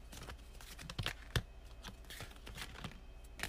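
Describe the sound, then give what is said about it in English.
A deck of tarot cards being shuffled the old-school way, by hand, before three cards are drawn, with some cards falling out: a steady, irregular run of soft papery flicks and taps, with a few sharper snaps standing out. Fairly quiet, with no talking. “But for now, I'll start with the three tarot cards and I'm just gonna shuffle because I'm doing this the old school way.”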